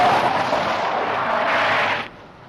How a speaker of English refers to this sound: Did I just hear a space trucker narrowly avoid turning one of the whales into roadkill?